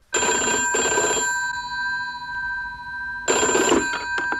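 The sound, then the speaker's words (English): An old-fashioned telephone bell rings at BBC Radio Brighton as the phones open to listeners for the first time, in two bursts, loud and shrill with a steady metallic tone that lingers between rings; no voices. “But once the opening celebrations were over, it was down to business and time to open the phones for the very first time to our listeners.”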